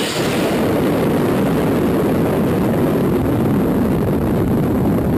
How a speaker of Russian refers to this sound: Но когда была дана команда, он включил небольшой ракетный двигатель, который приводится в действие благодаря перекиси водорода и баллону со сжатым газом. Тяговая сила эквивалентна спортивному автомобилю с мотором мощностью в 563 лошадиные силы.